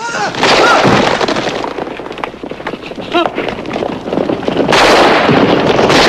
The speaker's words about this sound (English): … screams and flinches as shots pierce the wooden doors of her shelter.